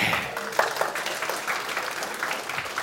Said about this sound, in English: So if I go and put the breakpoint on the line above, there. Now, I want a big round of applause if this works.